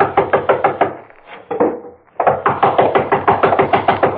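Loud, rapid knocking on a door in an insistent steady rhythm, breaking off briefly in the middle before resuming with a longer, even more forceful run of heavy knocks.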